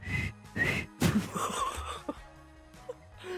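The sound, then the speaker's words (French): A person tries to whistle a song's melody live on air but mostly produces breathy, airy puffs with only brief, wavering hints of pitch, a few short bursts that never settle into a tune. “Ok, bon, bah je sifflerai pas du coup.”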